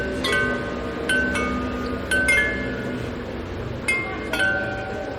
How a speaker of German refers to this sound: Die hören wir jetzt schon, während wir auf die Kirche zulaufen. Ganze 37 Glocken aus Meißner Porzellan.